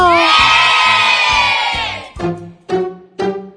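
In a studio, a crowd of supporters of the Escola Nossa Senhora das Graças, mostly children, cheers and shouts loudly and continuously over steady rhythmic thumps, then breaks into three short, punchy bursts of chanting.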